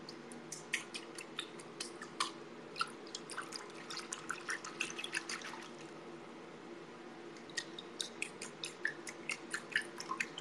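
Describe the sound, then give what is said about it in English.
Water splashing and dripping in a bathtub, an irregular patter of small drips and splashes in bursts with a brief lull midway, over the faint steady hum of a fan. No one speaks. “How do we know you're really in a bathtub? You wanna hear the water sounds?”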